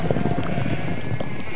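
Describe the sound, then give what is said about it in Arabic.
A flock of sheep being gathered bleat in a steady, overlapping chorus, several animals calling at once with wavering, mid-pitched cries over a continuous rustling background. No one speaks. “هيا نقوم نجمع غنمنا مثله.”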